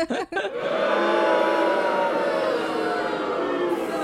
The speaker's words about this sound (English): Can you insert? Yeah. Crowd booing.